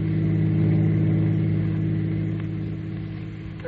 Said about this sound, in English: We find him now in his chauffeur-driven car, and with him is the lovely young girl, 15 years his junior.